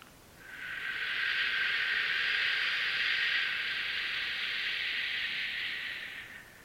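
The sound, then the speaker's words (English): A long, steady exhaled "shhh", the liver healing sound breathed out with eyes open to release tension, lasting about six seconds, a bright even hiss that swells in quickly, holds level, then fades out at the end, with no talking. “Open the eyes and shh. Sound going to the liver, tension going out.”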